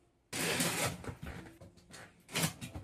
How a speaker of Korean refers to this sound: 진주가 선물해준 로봇 청소기.